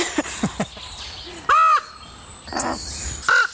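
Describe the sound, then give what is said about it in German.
Penny, a young hand-raised female raven, screeches harshly over and over in her large walk-in aviary, begging for food with loud, rasping calls in short bursts, the sharpest two coming near the middle and end, with faint background sounds between. “Warum schreit die immer so und macht den Schnabel auf?”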